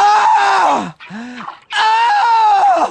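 A radio contest sounder cueing listeners to be caller number 5, made of loud, drawn-out moaning: two long, strained vocal moans with a shorter, lower groan squeezed between them, no words spoken.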